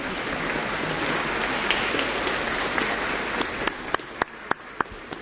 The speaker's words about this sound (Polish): Brawa dla ojca Grzegorza.